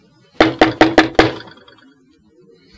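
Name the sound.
knocking on a door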